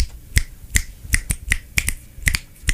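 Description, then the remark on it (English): Loud hand clapping, about ten sharp, crisp claps in an uneven rhythm, some coming in quick pairs, with no voices over them. “Sorry, I was clapping really loudly for you.”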